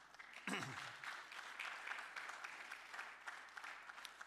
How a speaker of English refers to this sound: Insert applause. Yeah?